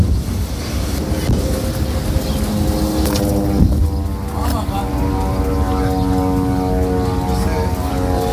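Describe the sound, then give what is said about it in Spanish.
A steady, droning engine of Israeli military aircraft flying over the Gaza Strip, recorded at the Israel-Gaza border, hums overhead with a constant pitch, loud and continuous throughout against a wash of outdoor noise. “El ejército domina los puestos fronterizos y es ahí cuando el micrófono de la cadena COPE ha sido testigo de esos bombardeos y también testigos de cómo aviones de este país sobrevolaban la franja.”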